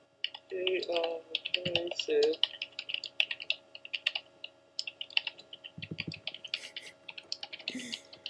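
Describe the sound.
Close, steady keyboard typing with quick irregular bursts of clicks throughout, while a voice murmurs briefly a few times underneath.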